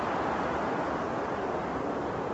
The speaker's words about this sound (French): quel est ce vent soudain?